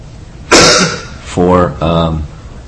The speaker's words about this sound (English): I heard that you had this cough, and now you hear the cough.